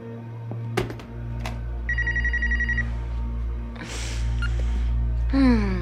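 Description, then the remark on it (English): A telephone rings at twelve minutes past seven in a single short trilling burst over a steady low hum, followed by rustling and shuffling noises. “It's 12 minutes past seven when a phone rings.”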